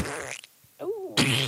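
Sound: fart sound effect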